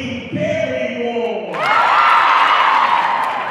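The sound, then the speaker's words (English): A gym crowd at a volleyball championship match roars into loud, sustained cheering and stomping after a few rising voices and whoops, the noise filling the gym steadily until the end. “The energy in the gym is electric. Everyone is stomping and cheering.”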